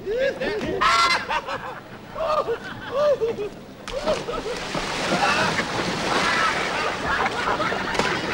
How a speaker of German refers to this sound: in den Ententeich mitten im Dorf, spielen mit den Enten, sie sind nackt da im Wasser und irgendwann taucht natürlich ein Volkspolizist auf, der diesem Treiben ein Ende setzen möchte und die Staatsgewalt geht wörtlich baden.